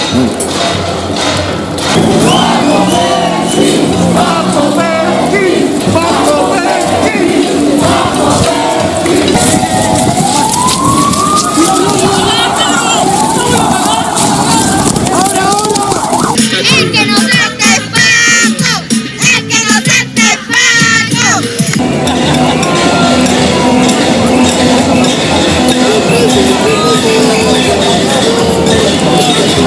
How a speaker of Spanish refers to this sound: Bueno, pues estos son los sonidos de la calle con las comunicaciones de la calle a los 3 meses de lucha del pueblo chileno.